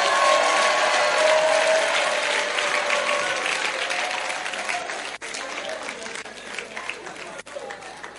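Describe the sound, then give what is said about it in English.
A church audience claps for those who stood up, loudly in a dense, sustained burst of applause that holds steady for several seconds, then gradually thins and softens toward the end, with a few murmuring voices underneath. “Clap for those who got up.”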